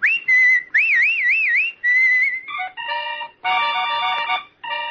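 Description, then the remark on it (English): A person whistles a short, warbling melody with clear notes and wavering vibrato on a radio program sponsored by Kellogg's All-Bran, before bright, chord-like musical bursts take over toward the end. “I'll be whistling, so you folks keep listening, will you?”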